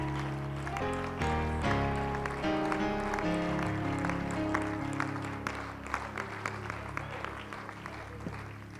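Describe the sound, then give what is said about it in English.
An audience claps steadily for several seconds as a hand clap of praise during a church service, the applause mixed with sustained keyboard or organ chords playing underneath, full throughout. “Let's give them one more hand clap of praise.”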